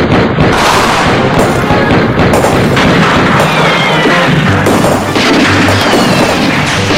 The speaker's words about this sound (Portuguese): Bala, bala no Vale do Mamanguape. Bala, tiro. Olha o pipoco, doido.